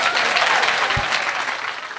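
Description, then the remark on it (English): Steady, dense applause from a large audience at the end of a talk at the Greenbelt Festival, many hands clapping at once in a continuous wash that stays loud throughout with no voices breaking through. “So can we give a massive round of applause”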